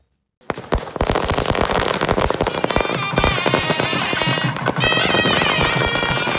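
Rapid, loud crackling bursts of firecrackers pop continuously, while high, reedy wind-instrument music with drums plays through the din of an outdoor celebration in Tulasindrapuram, Tamil Nadu, India, the hometown village of Vice President-elect Kamala Harris's maternal grandfather.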